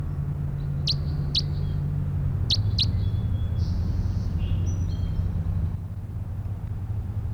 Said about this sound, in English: Stop. It's bird 306 again.